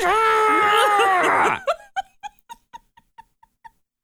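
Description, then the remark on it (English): A person screams into the void, a loud, drawn-out scream that wavers in pitch for about a second and a half, then breaks off into a run of short, rhythmic breathy bursts, like panting laughter fading out. “Shout into the void and shout scream into the void.”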